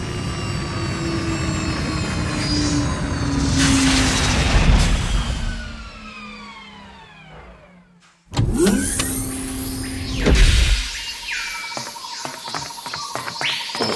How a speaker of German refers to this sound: Wir beginnen unseren Landeanflug und wünschen einen spannenden Aufenthalt am Amazonas.